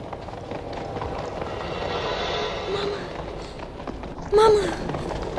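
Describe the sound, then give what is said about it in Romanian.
The hooves of two riders' white horses pound in a steady, dense galloping rhythm, continuous, with a brief higher-pitched cry rising over them near the end. “De doi călăreți pe cai albi.”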